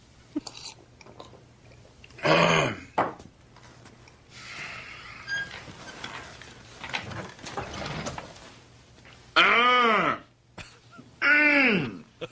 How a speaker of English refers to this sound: He's filling in for his buddy to give this presentation at this life insurance company. And he's trying to kill time by clearing his throat.